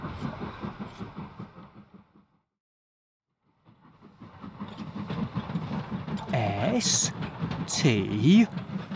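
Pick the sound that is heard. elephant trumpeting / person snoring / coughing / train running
train running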